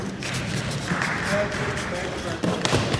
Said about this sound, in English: You hear that thump and then the applause from the guys there? That's me falling right on my backside.